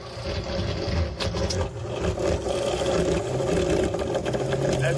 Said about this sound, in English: Actually, let's do compare and contrast here. So again, in my house right now, this is what's making noise. My bathroom exhaust fan.